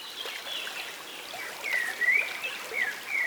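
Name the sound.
babbling stream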